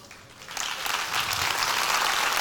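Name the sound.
audience applauding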